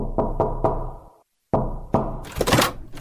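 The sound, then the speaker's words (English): Three quick, solid knocks on a door, a short silence, then two more knocks followed by a burst of rustling, scraping noise. “Then came a knock on the door.”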